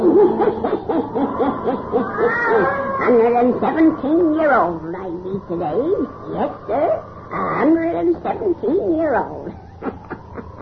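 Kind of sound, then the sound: animal, black cat meowing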